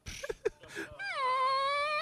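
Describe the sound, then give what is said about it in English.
A boy's voice imitates a whale during a test in a classroom: a few short breathy, clicky bursts, then a long sustained moaning tone that bends slightly upward and holds steady to the end. “son will do whale sounds during tests.”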